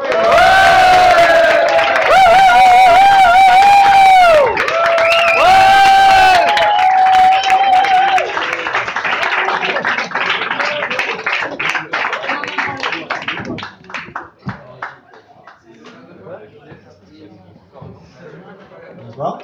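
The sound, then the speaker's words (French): A crowd, asked to applaud twice as loud, cheers loudly with sustained whoops and shouts, then bursts into dense, steady clapping that gradually thins out and fades to scattered claps. “Mesdames, messieurs, nous applaudissons deux fois plus fort.”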